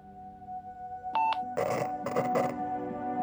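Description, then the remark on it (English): Walkie-talkie static: a steady electronic hum, two quick beeps, then several rough bursts of loud, hissing crackle. Nobody speaks. “Hear that? Nothing but static.”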